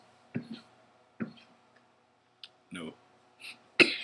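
A few short, dry coughs, spaced out about a second apart, with the last one the loudest and sharpest.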